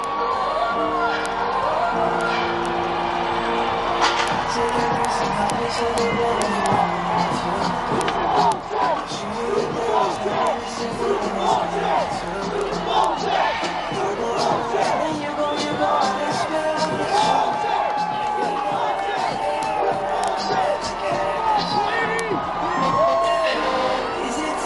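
A large crowd cheers and whoops steadily for the whole stretch, being led in chants of "defense" and "Broncos", with scattered shouts and a dense roar of many voices, loud and continuous with no pauses.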